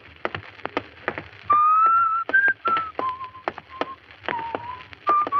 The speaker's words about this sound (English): Stop whistling that. It gets on my nerves. Why, that's Jesse's favorite song, isn't it?